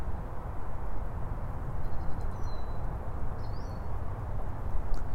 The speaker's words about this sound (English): Take a moment to look up through the branches. And I find that bird making bird song.